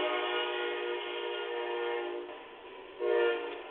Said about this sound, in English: Somebody lives right by a train.